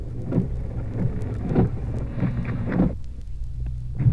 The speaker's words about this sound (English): Pretty wet. Heavy rain.